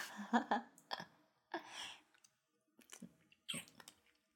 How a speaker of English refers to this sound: I'm drooling a lot. Is that okay?